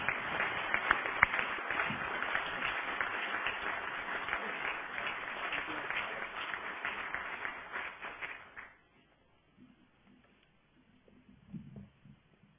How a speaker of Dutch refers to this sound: Applaus.